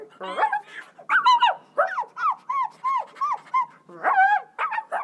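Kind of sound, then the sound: animal, dog barking and whimpering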